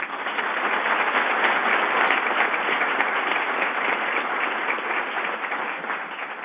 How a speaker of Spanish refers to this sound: no es porque estemos en un acuerdo de aplausos, pero le debemos mucho a usted y la aplaudimos de todo corazón.